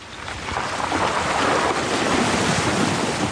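A vehicle ploughs through creek water, a steady, loud rush of splashing and churning water over a low rumble, continuous for the whole stretch with no voices.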